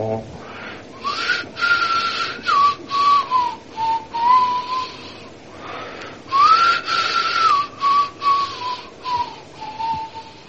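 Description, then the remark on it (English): Someone whistles a breathy, flute-like melody, clear, in two gliding phrases with short gaps between the notes and a brief pause in the middle, mimicking a flute. “That whistling was intended to sound like a flute.”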